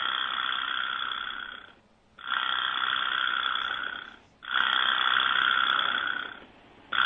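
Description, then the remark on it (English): A buzzy vibraslap rattle sounds three times, each a sustained, dense, mid-to-high clattering buzz lasting about two seconds, separated by brief silences. No one speaks. “Oh, that vibra slap's creepy.”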